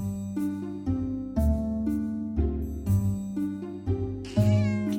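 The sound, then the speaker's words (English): Stanko's black cat meows repeatedly as it stalks past a sofa after a mouse, with drawn-out, tonal calls that shift in pitch and overlap one after another. Fairly loud, with no talking. “Stanko's black cat stalked past the sofa after a mouse”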